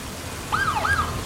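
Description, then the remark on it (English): A sheriff's cruiser siren gives two quick rising-and-falling whoops over a steady hiss of rain as the cruiser pulls up, starting suddenly partway through. No one speaks. “A sheriff cruiser pulls up, its spotlight pointed at him.”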